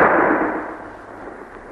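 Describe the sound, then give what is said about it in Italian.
A single hunting gunshot at ducks on a marsh cracks out loudly, then rolls away in a long, rumbling fade lasting over a second, with no voices. “Senti! Fanno buona caccia!”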